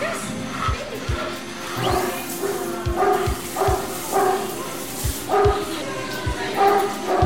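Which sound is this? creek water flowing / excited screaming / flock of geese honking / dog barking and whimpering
dog barking and whimpering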